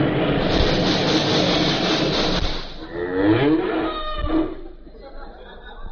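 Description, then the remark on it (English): A cow on a road moos twice, low drawn-out calls following a few seconds of loud rumbling noise, like a passing vehicle, with the lowing clear. “We'll push the cow out on the road.”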